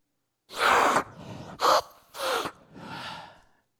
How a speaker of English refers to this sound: You sniff wood? They don't smell alike.